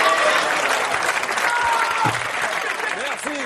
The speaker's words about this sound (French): Voilà, les gens applaudissent et rigolent,